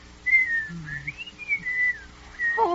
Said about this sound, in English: Well, I suppose I could whistle.